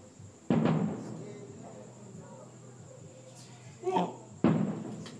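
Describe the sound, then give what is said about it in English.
Fireworks explode in two loud, sharp booms a few seconds apart, heard from a walled patio, each trailing off in a rumbling echo, with a smaller crackling burst just before the second blast. “But these are audio recordings of the fireworks.”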